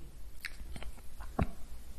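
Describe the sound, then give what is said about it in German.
A patient swallows while a doctor palpates the thyroid from behind: a few soft wet clicks followed by a brief gulp, with no talking, just faint background noise. “Noch einmal bitte schlucken.”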